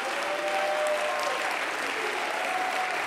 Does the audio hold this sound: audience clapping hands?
yes